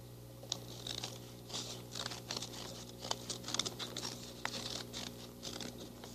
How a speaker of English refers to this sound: Now we're going to cut a line, a little line, up to the fold. Oh, just up to there? Just straight up to the fold.